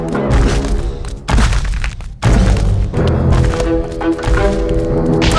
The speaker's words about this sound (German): Die Maus ging los und der Gryffalo stampfte dicht hinter ihr her.